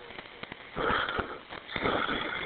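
A harsh, ragged gasping breath from an unconscious woman who is not breathing normally, drawn in and out, loud, with broad noisy rasps rising around the middle and again near the end, no voices present.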